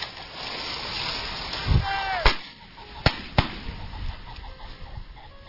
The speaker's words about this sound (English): just walk through this South Dakota cornfield with me. You won't travel far before the roosters start blowing up through the corn like fireworks tracing across the sky.